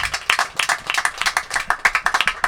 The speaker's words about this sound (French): Des applaudissements aussi pour l'animatrice